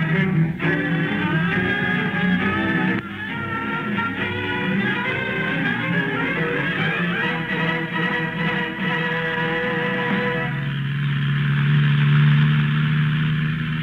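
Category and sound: vehicle, car engine running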